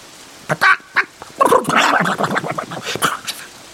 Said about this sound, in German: Da waren die ersten Hühner schon zwischen seinen Beinen fröhlich ins Haus gelaufen und schüttelten ihr nasses Federkleid trocken.